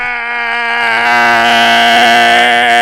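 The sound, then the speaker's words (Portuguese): A voice imitates a bat's sonar with one loud, sustained, nasal screech held for about three seconds, its pitch steady and its tone growing harsher and brighter midway. “Gritando, vai tipo um sonar de morcego, assim, ó.”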